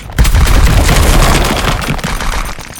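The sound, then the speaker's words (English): A dense, rumbling crash of video game boulders tumbling down in a Boulder Storm, a continuous loud barrage of heavy thuds and booms with gritty crackle that fades slightly toward the end, with no voices. “The rocks that land.”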